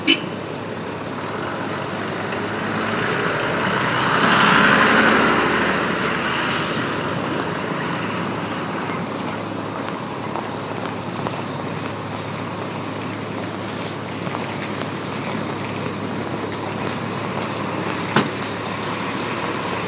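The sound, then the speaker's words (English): Steady outdoor city street ambience in Times Square on a very cold day: a dense wash of traffic rumble and hiss that swells briefly early on, with a few faint clicks and indistinct murmurs in the background. “I am standing in Times Square for the moment, for a very short moment indeed.”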